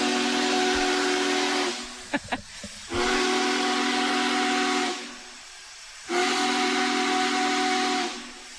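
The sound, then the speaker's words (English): An oil-fired steam locomotive whistle sounds two long, loud, steady blasts as the train leaves the train yard, each held for about two seconds with a short pause between, carried on a rushing hiss of steam. No one speaks. “leave the train yard, they're going to let 2 blasts, long blasts of that whistle go.”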